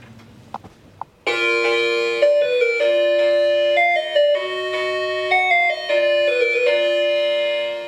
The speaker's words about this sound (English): I want to hit your doorbell again and record the sound of it because it's amazing.